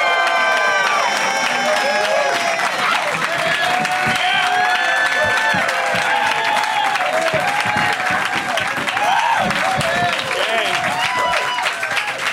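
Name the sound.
audience applause and cheering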